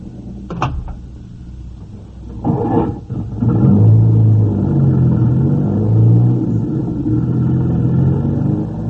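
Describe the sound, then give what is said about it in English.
A couple of sharp knocks, like car doors shutting, then a car engine starts up and settles into a steady, loud rumble as the vehicle pulls away. No one speaks. “Johnny, get in the car.”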